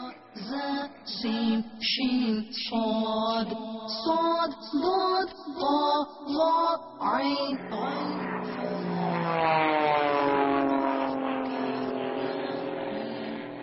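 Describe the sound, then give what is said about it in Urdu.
A loud, droning airplane engine swells in and holds steady, its pitch sliding slowly as it passes by, after a stretch of choppy, pulsing sounds. “یہ ایک اور جہاز آ رہا ہے، بتائیے یہ جہاز کس رنگ کا ہے؟”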